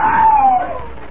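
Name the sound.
man screaming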